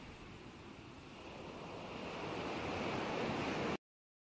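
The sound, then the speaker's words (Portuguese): Ocean waves roll and break on the shore in a steady, broad wash of surf that slowly swells louder, with no voices present. “As ondas continuam relaxando o seu corpo.”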